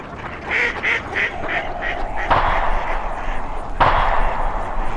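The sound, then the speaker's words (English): A string of duck quacks is followed by two sharp, booming gunshots from duck hunters at a frozen lake, about a second and a half apart, each leaving a short rumbling tail over steady background noise. “If you aren't careful, you are going to get shot by the duck hunters.”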